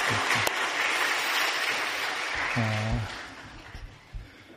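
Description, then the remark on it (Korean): A church audience applauds its choir steadily in a dense wash of clapping that tapers off toward the end, with a brief tonal hum and a few scattered claps as it fades. “우리 박수 한번 할까요?”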